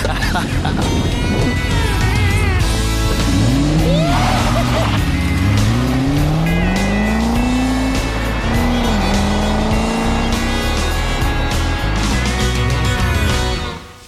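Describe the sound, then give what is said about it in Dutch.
A car engine revs loudly, its pitch climbing in repeated rising sweeps, with squealing tires mixed in and a dense, continuous roar throughout, as the car comes back from being repaired. “Zo, hij heeft zijn auto eventjes laten maken.”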